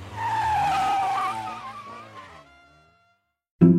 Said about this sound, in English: he got in the car. He's driving my car away. The turkey just stole my car.